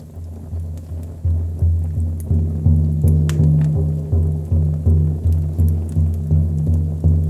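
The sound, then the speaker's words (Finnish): A steady, resonant drum beat thumps at an even pace, roughly one deep stroke every half second, continuing without pause and fairly loud, with no voices over it, played beside a campfire. “Rytmikäs syke kaikuu ympärilläni.”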